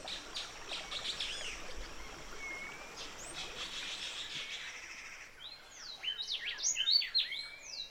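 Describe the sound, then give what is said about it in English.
A steady rush of a flowing river fills the background while birds sing and chirp throughout, their calls growing brighter and more insistent in the final few seconds. “The river, the birds, the insects, they're our neighbors, and they're talking with us.”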